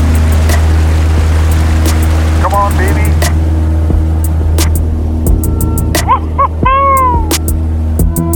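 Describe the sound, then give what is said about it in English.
A floatplane engine roars loudly and steadily as the plane takes off from a lake on its pontoons and climbs over tall firs and cedars at the lake's end, a deep continuous drone filling the whole clip while a voice briefly speaks over it. “We leave the water and start to fly.”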